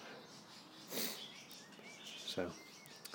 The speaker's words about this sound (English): I'm walking past a bird enclosure, in case you wondered, which also has a rabbit.